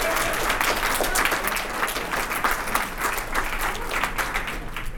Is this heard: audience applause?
yes